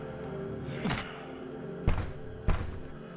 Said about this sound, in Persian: انفجار برای مواد آتش بازی بود.